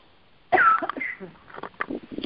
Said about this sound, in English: Coughs are good, actually. It means you're coughing that hairball out.